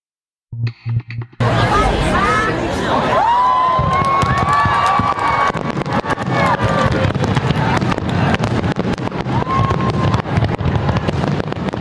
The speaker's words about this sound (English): A fireworks display lit up New York Harbor last night in honor of essential workers and in celebration of New York State lifting restrictions after reaching a milestone, 70% vaccination rate among adults.